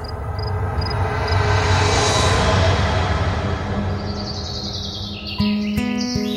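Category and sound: bird, birds singing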